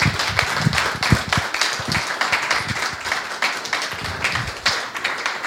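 A crowd applauds steadily for several seconds, a dense, continuous patter of many hands clapping at once, fairly loud and close, with no one speaking over it.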